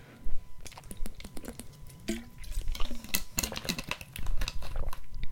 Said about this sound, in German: Oh, ich trinke noch einen Schluck Wasser mit euch zusammen.